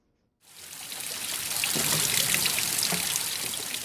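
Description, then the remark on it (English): Spring water flowing down from Table Mountain flows and trickles steadily at Spring Road in Newlands, Cape Town, during a drought. After a brief silent start comes a dense splashing rush with occasional brighter drips, continuous with no voices. “Despite the drought, the spring water hasn't stopped flowing down nearby Table Mountain.”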